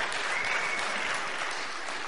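A crowd claps steadily for about two seconds, a dense, even wash of many hands with no single claps standing out and no voices on top.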